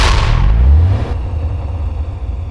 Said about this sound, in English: Wayne rolled over to look at the explosion in progress.